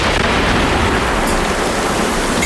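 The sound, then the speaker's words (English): A compressor shorting out and blowing its seals: a loud, steady rush of hissing noise that holds at an even level for the full couple of seconds, with no voices. “So that's what East heard, was what we call a compressor shorting out and blowing the seals out of the compressor, is what he heard.”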